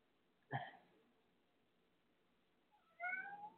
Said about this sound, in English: So my cat's in the studio. Thank God he's doing what he's doing.